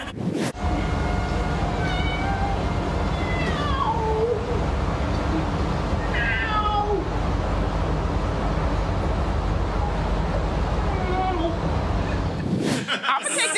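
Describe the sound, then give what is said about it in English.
A man's voice imitates a cat, giving several drawn-out meows spaced a few seconds apart, over a loud, steady rumble of a moving subway car. “At least the cat guy knows how to get on the damn subway.”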